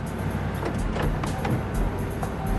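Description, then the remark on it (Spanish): A car's engine rumbles steadily as a couple arrives by car at a Western Union office, a low continuous drone with faint clicks and rustles over it, and no voices. “Lograron identificar a la pareja que llegaba en un auto.”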